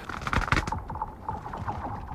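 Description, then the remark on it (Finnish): Lake ice booms deeply, opening with a couple of sharp cracking bursts, then settling into a low, hollow rumble with muffled resonant tones, caused by changes in air temperature making the ice expand and contract. No voices. “Ja sitten se voi olla tällaista syvältä maan sisältä kumpuavaa, hyvin kumeaa ääntä.”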